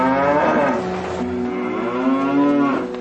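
A cow lets out one long, drawn-out moo lasting about three seconds, loud, with a rich droning tone that swells toward the end. No one speaks.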